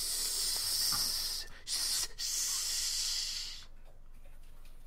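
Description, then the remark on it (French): A loud, airy hissing of hissing creatures in the vicinity runs steadily, cut by two brief pauses, then stops abruptly and leaves a faint background. No one speaks. “Attention, il y a des créatures siffleuses dans les environs.”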